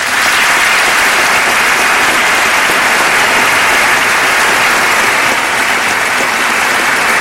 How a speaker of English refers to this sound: Everybody on both sides of the aisle are standing and applauding. Everybody.